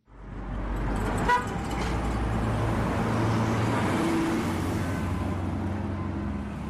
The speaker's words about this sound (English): Home Sweet Home reads the sticker on the minibus taxi's back windscreen as it speeds through a red traffic light in the Johannesburg city centre.